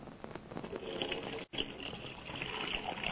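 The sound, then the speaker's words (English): Water splashes and sloshes steadily in a dishpan as dishes are washed with a cake of soap, a busy, continuous swishing with a brief break partway through, and no talking. “he's decided to be helpful and wash the dishes she left in the kitchen.”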